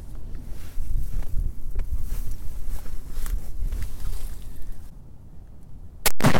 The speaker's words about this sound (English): And a note to listeners, this story does include the sound of a gunshot.